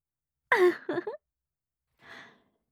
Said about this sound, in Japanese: ダサーい。ベロ出しながら、はあはあ吐息漏らして、最高にダサいですよ。興奮しすぎて、息も荒いし、まるで発情した犬ですね。